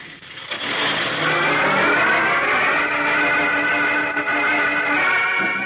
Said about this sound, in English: Eyes wide and heart-pounding, young Chuck Riggs watches the truck carrying his uncle and the other hooded terrorists roar out of the dark driveway.